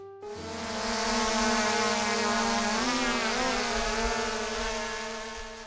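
A steady buzzing of a drone with stacked whining tones that waver and bend in pitch midway, as if the rotors shift speed, sustained for several seconds with no talking.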